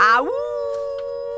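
A dog lets out one long howl that slides upward and then holds a steady, clear pitch to the end, loud and alone with no talking.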